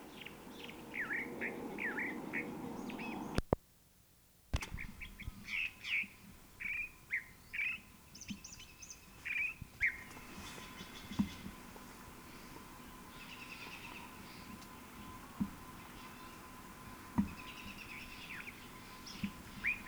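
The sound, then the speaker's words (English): A California Thrasher in Alameda County, California, sings a long, varied string of short phrases, repeated chirps and whistled notes in jumbled bursts, moderately loud over a low background hum, with a brief gap early on. “California Thrasher.”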